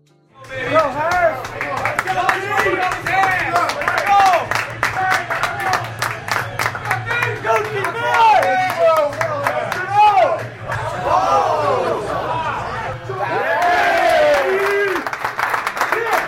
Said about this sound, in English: The bar is Jameson's in Rockaway Beach. It's crowded for a Monday night football game between the Jets and the Pats. The bar is loud with cheering and booing, depending on which team each person bet.